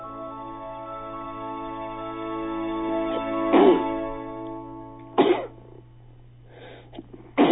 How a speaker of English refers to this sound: Bless you. Thank you.